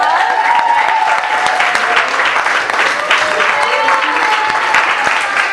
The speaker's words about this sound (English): I think everybody deserves a round of applause.